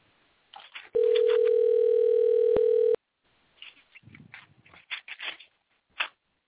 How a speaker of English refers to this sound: so if you hear the phone ring, just kind of hang on in there.